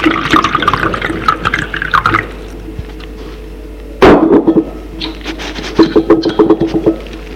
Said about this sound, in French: Donne-moi à boire. Charles remplit le verre qui est sur la table de nuit.